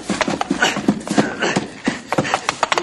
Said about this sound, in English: Look out for that horse, boss! He's coming for you!